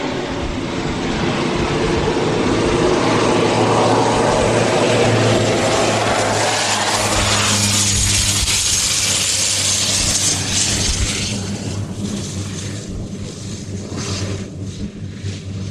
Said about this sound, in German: Und dann ist auch schon unsere Maschine da. Unsere kleine Cessna bringt uns jetzt von unserem Landing Strip Cement bis nach Maun